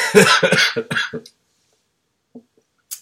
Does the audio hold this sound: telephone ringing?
no